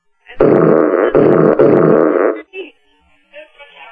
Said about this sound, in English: I smell farts.